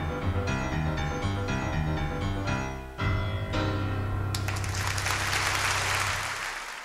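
A piano and band play sustained chords to a close, then loud, dense audience applause breaks out over the fading final notes and carries on to the end.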